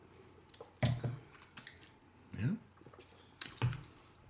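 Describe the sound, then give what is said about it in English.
Quiet sipping from a lime cocktail: a few short slurps and wet mouth clicks spaced over a few seconds, with a soft murmured hum in between. “Dare we sip?”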